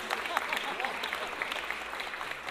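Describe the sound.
A crowd applauds two older men steadily, dense overlapping claps forming a continuous rattle with scattered sharper hand strikes, while murmured voices blend underneath.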